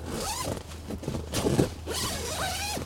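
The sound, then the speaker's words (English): A tent zipper is pulled closed from inside in a few quick, raspy strokes at a park campsite, with a steady low hum underneath and no one talking. “I zip into my tent.”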